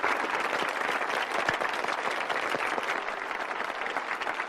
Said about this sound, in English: Harris frowns and claps slowly.